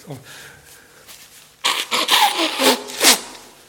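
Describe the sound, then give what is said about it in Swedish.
A short pause, then a person blows their nose into a paper tissue: a few forceful, breathy honks and rustles in quick succession, fairly loud. “Ursäkta mig. Nu ska jag använda lite papperna som står framme.”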